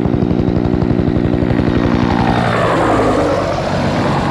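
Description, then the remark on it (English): An Army helicopter roars overhead, its rotor thumping in a rapid steady beat with a whining engine, the pitch shifting as it passes. It is loud throughout, and no one speaks. “Well, here comes another chopper.”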